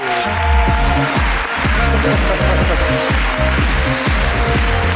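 Loud, sustained audience applause fills all five seconds as a dense, steady wash of clapping, with a rhythmic low thumping pulse running underneath it.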